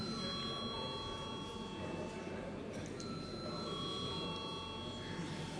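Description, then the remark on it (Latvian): A continuous electric bell rings steadily through the whole stretch in a parliament, rung to call a vote on a bill amending the education law at first reading; a sustained metallic tone with faint murmur beneath and no speech. “Aicinu pirmajā lasījumā atbalstīt likumprojektu grozījums izglītības likumā. Lūdzu, zvanu.”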